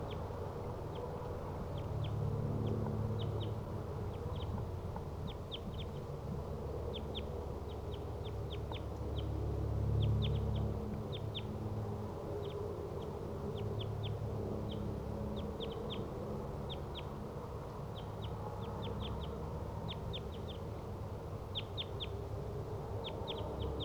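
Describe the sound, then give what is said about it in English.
Two wild crossbills give short, sharp calls in quick repeated bursts from the treetops, each in a different tree about 20 to 30 meters from a decoy cage they surround, against a steady low outdoor rumble with no one talking. “Wild crossbills are in the treetops, each in a different tree, surrounding the decoy cage, each about 20 to 30 meters away from the cage.”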